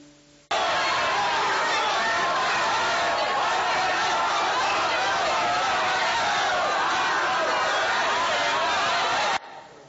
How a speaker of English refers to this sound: It's a crowd, isn't it? It's meant to be an angry crowd. It's quite an upsetting sound.